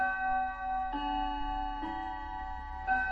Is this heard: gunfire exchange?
no